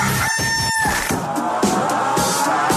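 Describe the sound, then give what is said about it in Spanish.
A rooster, the station rooster of Radioactiva radio, crows loudly, a single drawn-out call that gives way to a dense, noisy wash of sound with no one speaking. “El Gallo de Radioactiva.”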